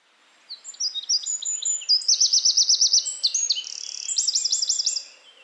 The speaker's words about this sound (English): In the temperate forests of Europe, you're likely to hear the song of the Eurasian wren, Troglodytes troglodytes. Here's its song.